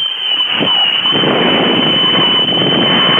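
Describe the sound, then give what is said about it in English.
A woman on a phone call blows a loud, shrill whistle that holds one steady high pitch for about three seconds over harsh, narrow, telephone-like noise, before hanging up, with no talking. “She blew a whistle at me. And then she hung up after she blew the whistle.”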